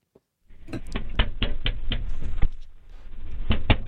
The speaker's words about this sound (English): Here's, first you'll hear the knocking. Then you'll hear the police officer is the first person who talks.